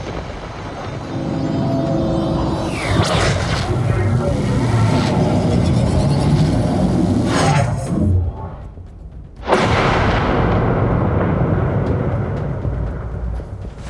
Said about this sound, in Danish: Jamen, jeg kaster Thunderwave. Yes. Skjoldet. Kæmpe blæs af torden og lyn kommer ud gennem skjoldet her og rammer begge to.